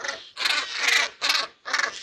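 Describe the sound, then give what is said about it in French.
A plunge-diving seabird with white plumage, a yellow-tinged neck and light blue eyes, which dives up to 10 metres deep to catch fish, gives four harsh, raspy calls in quick succession, each a loud, grating burst with brief gaps between, with no voices. “Il s'enfonce comme dans du beurre dans la surface et plonge jusqu'à 10 mètres de profondeur pour attraper des poissons. Voici son cri.”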